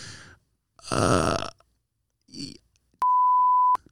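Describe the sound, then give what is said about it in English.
A single steady, high-pitched censor bleep cuts in loudly for under a second over a spoken word, following a few short, throaty vocal sounds with gaps of silence between them. “We're gonna beep it.”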